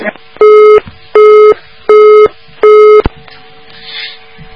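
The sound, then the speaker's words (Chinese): A telephone busy tone sounds four times in an even on-off rhythm after a listener's call to a radio call-in program connects and hangs up, steady electronic beeps heard clearly over a faint line hiss, then falls silent. “哎呀，刚刚很可惜，一个电话通了就挂掉了。”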